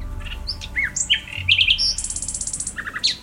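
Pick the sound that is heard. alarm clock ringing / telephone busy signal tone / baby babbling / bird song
bird song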